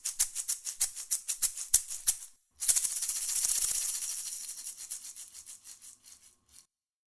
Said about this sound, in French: Tu viens d'entendre les maracas.